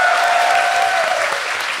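The audience at a live panel at New York Comic Con 2014 claps steadily and loudly for the tech guy, a dense wash of many hands with a faint tonal whistle or feedback running underneath that slowly fades as the applause continues.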